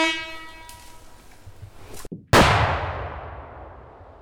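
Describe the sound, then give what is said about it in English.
A steady, reedy horn-like tone fades out, then a single sharp, cracking explosive blast, set off with a fuse to breach a beaver dam, bursts out loudly and trails off in a long, rumbling roar. No one speaks. “You know, we had a nice kind of cracking sound there.”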